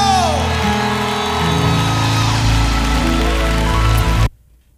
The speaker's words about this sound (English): America, would you clap your hands for my new African brother,